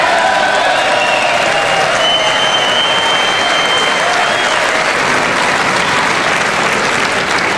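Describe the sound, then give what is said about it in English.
Sustained applause from standing legislators, lasting about a minute, fills the whole stretch, a dense, loud wash of many hands clapping at an even level with a few faint whistles or cheers riding on top and no break. “And the clapping went on for a long time.”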